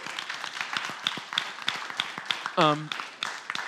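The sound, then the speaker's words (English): An audience claps steadily for several seconds, a dense patter of overlapping hand claps at moderate loudness, with a brief voiced call rising out of it partway through. The applause is for someone's work at a retreat. “did a great job yesterday at our retreat, and so you can clap for that.”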